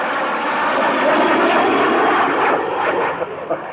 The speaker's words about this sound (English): There is a fighter plane approaching. And when I say now, the jet will be directly over my head. Now!